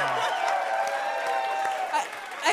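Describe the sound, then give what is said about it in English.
A game show audience applauds steadily for a couple of seconds, dense clapping mixed with cheering voices, holding fairly loud throughout before thinning slightly at the end. “I've never gotten so much applause for doing so little.”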